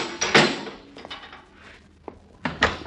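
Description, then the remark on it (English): The door of a small booth is pushed shut with a solid wooden thud, followed by a few smaller knocks and rattles, then a final heavier bump, with no one talking. “Shut the door after you”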